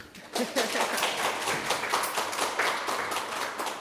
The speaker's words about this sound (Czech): takže jsme v kavárně Muzea východních Čech. Vyslyšíte skleničky, hrnečky a jsou tady i účastníci našeho natáčení, takže možná, že nám i zatleskají.